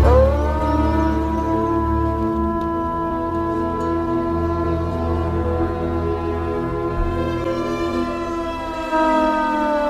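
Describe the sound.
A man imitates a wolf howl with one long, loud, sustained wail that holds a steady pitch before sliding upward near the end, with no talking.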